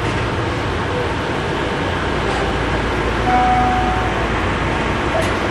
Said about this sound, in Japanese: さあここから路面電車に変わりますね。軌道が通常の道路の中の軌道を走ることになります。